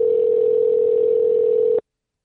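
A telephone ringback tone on an outgoing call placed live on the Christ the Center show: one steady, clear electronic buzz lasting under two seconds, then abrupt silence. No one speaks.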